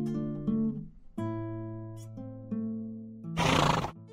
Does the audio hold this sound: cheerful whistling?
no